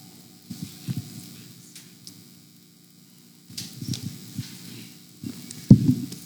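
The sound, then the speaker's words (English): Many paper pages of books rustle and flip in soft, irregular bursts, with a quiet lull in the middle and a sharper flurry near the end. No one speaks. “So good to hear this, the sound of pages turning.”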